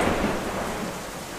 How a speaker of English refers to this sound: Storm's getting a little crazy, so I'm just going to shut this door.